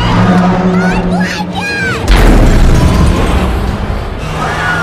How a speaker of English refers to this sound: The runaway garbage truck smashes into the back of a delivery truck and turns over.